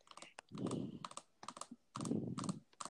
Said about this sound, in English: I can hear someone typing.